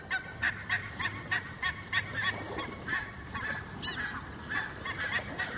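Geese honk over and over in quick, overlapping bursts, a busy chorus of harsh nasal calls at a steady moderate loudness with a faint low rumble underneath and no voices.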